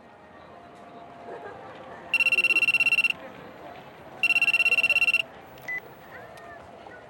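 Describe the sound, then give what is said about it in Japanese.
A telephone rings twice, each burst a bright, rapidly trilling electronic tone about a second long with a pause between, standing out clearly over a steady murmur of room noise. “わざわざそんなことを言うために電話してきたのか。”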